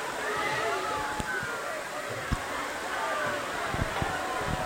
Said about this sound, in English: A better adjective might be a torrential downpour. It is really coming down again.